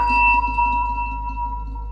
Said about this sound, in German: Und das sind die Klangschalen. Das sind Klangschalen, die spielen ja so in der gleichen Kategorie wie Gongs eine Rolle, wenn es irgendwie um meditative Sounds gehen soll.